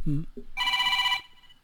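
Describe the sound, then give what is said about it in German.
A short burst of a voice, then a telephone in a studio rings once, loud: a bright warbling electronic trill lasting about half a second before cutting off. “Telefon in Studio, nicht in Studio.”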